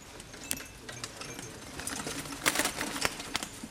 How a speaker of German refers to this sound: Dazu haben wir aber ein Gemisch aus Flügelschlagen und auch ein bisschen Percussion, weil die auch auf den Sitzstangen herumlaufen und auch die abgenommen werden mit dem Mikrofon.